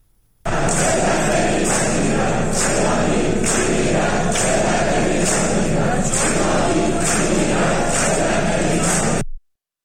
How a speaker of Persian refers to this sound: صدای دانشجویان دانشکده مکانیک خواجه نصیر در حالی که دانشگاه در محاصره یگان ویژه بود را بشنویم که فریاد می‌زنند ایرانی می‌میرد، ذلت نمی‌پذیرد.